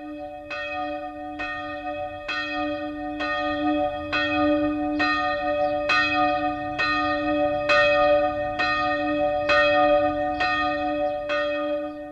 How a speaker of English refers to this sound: This bell was cast in 1291, the very year in which the Swiss Confederation was born. Today, nearly seven centuries later, from the little village church of Wagenhausen in northeastern Switzerland, the bell still rings out the message of Christian